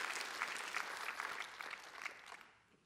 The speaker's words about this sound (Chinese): 好不好，我们一同为我们牧者同工们一同来鼓掌好不好？真的是真的为他们感谢神，感谢我们的同工跟牧者。